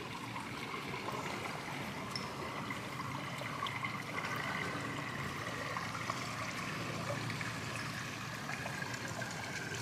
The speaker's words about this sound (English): Oh my God, this is so calm and so beautiful. Listen to the water.